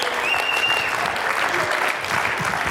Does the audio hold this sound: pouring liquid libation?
no